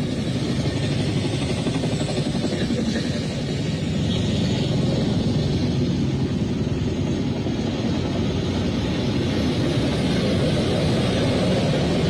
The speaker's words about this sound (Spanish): Se escuchan helicópteros, son las 1:58 de la mañana. Están atacando el fuerte Piura.